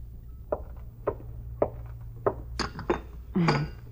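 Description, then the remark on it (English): Cups and dishes clink as cups are got ready for serving coffee from an urn, in a series of sharp, bright taps, roughly evenly spaced at first and then bunching together, ending in a slightly longer ringing clatter over a low steady hum. “I was just getting the cups ready.”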